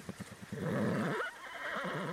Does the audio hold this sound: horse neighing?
yes